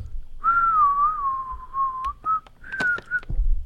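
A whistled melody by a whistling group, played from a phone, with a long sustained note sliding gently, then a few shorter rising phrases, played clearly over a faint low background with some clicks near the end.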